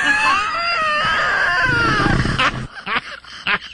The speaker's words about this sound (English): What is that? That's a mix of a laugh and a burp. That's that right there.